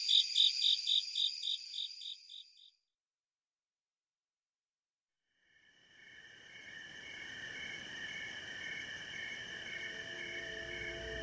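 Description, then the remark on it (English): Crickets of two different species calling from different heights: a rapid, evenly pulsed chirping stops abruptly, then after a few seconds of silence a dense, continuous high trill fades in and holds steady. “it's almost like you're changing the station on cricket radio.”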